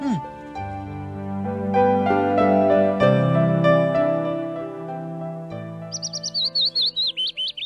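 Sustained instrumental music plays, then near the end a small bird, Emperor Taizong of Tang's pet bird, breaks in with a bright, rapid warbling trill of quick repeated chirps over the fading music.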